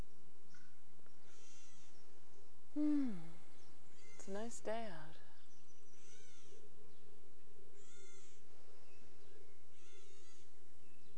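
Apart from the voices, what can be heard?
bird calling outdoors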